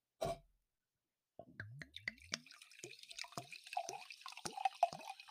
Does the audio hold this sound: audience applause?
no